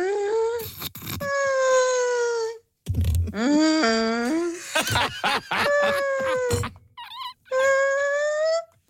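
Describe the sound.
A person imitates a whale for nine seconds with long, wavering, high-pitched vocal moans that slide up and down, broken by short pauses and a few sharper squeaky calls, loud and sustained with no other talk.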